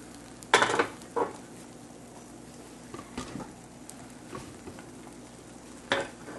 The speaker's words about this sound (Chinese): 跟住咧，慢慢煎到佢咧，開始咧啲蛋汁咧，你都見到咧啲蛋汁咧開始咧凝固啦。